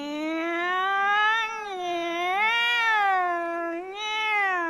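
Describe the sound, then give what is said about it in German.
A voice imitates a wailing alarm siren, one sustained tone that swells up and down in pitch several times over a few seconds, fairly loud, with no words. “Plötzlich schrillte von weitem eine Alarmsirene. Wer kann denn das? Alarmsirene?”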